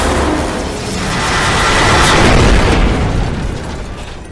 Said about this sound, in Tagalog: Tuluyan nga ding bumagsak ang helikopter sa lupa na siyang nasasakupan ng bayan ng San Mariano. Kasabay ng pagsabog na napakalakas ay ang pagyanig ng kalupaan ng naturang lugar.